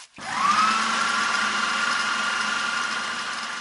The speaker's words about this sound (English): I'm going to put maybe a couple of cups full of water into the blender, then add paper until it turns into a nice thick paste.